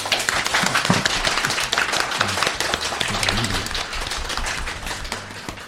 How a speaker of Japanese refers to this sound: はい、というわけで本日、2019年4月3日の放送でございますけれども、まあ皆様この拍手を聞いた通りもう分かると思うんですけども、なんと本日、この番組始まって2回目の公開収録でございます。